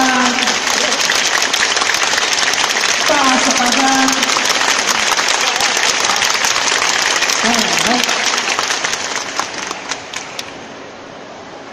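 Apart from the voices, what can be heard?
audience clapping hands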